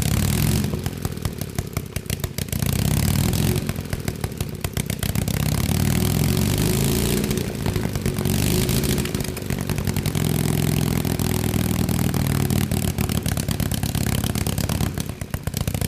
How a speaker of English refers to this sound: They're really unique because there's no exhaust pipes on them, so the ports into the cylinder are open, and flames actually shoot out when it runs. So it's pretty neat. We should hear this.